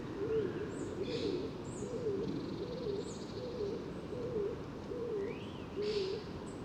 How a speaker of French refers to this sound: Et le roule-coulement caractéristique, très doux.